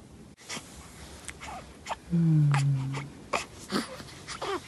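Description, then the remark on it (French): A newborn baby whimpers and fusses: short squeaky cries and breathy grunts, with one longer, drawn-out moaning wail in the middle, all fairly soft. “Bonjour bébé. Bonjour. Tiens, tiens. Bienvenue parmi nous.”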